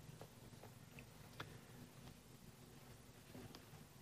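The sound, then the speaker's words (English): A faint clock ticks, soft clicks at a loose, uneven pace over a low steady hum, with no one talking. “That clock kills me.”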